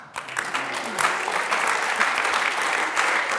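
An audience claps together, a dense, steady patter of many hands that swells quickly and holds at an even, moderately loud level for a few seconds.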